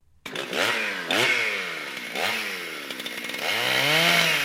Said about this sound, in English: And the chainsaw. Why is it running down the hall with a chainsaw going, Projectionist? That seems a little dangerous, doesn't it?